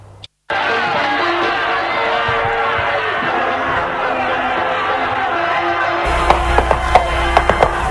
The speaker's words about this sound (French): On entend les ouvriers qui sont mécontents.